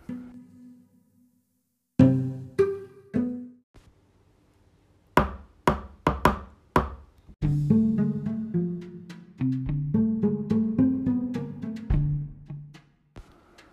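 knocking on a door

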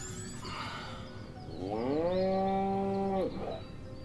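cow mooing

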